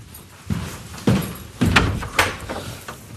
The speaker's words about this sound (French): C'est d'ailleurs ce qu'il fait quand Denise vient frapper à la porte.